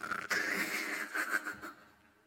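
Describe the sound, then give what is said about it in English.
A voice imitates snoring: a single drawn-out, raspy, rattling breath, fairly loud, lasting about two seconds before trailing off. “But so he tries to always, when we go to bed, to be the first one to sleep so that, you know, he won't hear my snoring.”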